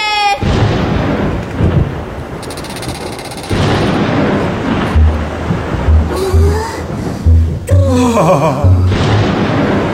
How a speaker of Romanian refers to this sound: Furtună, furtună, fulgeră și tună, plouă cu șiroaie, popele au pornit. Furtună, furtună, fulgeră și tună, pomii se întoaie, s-a dezlănțuit.